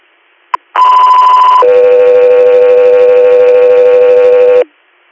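A brief click, then a loud two-tone Guthrie Air dispatch radio alert before an inter-hospital response request: a steady higher tone for about a second gives way to a longer, lower steady tone that holds for three seconds before cutting off.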